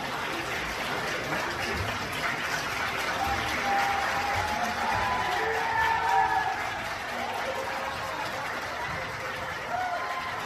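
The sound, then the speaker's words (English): A crowd cheers and applauds in a steady, dense wash of noise, with clapping and scattered voices blending together at a fairly constant loudness for about ten seconds, cheering that there will be no debate on Arizona's 1864 abortion law. “There they are cheering that there isn't even going to be a conversation about what to do about this 1864 law, if anything.”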